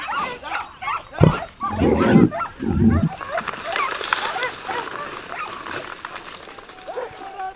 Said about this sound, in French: Et l'une des chasses les plus habituelles est la chasse à courre dans un bois comme celui-ci où nous nous trouvons. Un groupe de chiens a découvert un sanglier qui a pris rapidement la fuite comme poursuivi par le diable.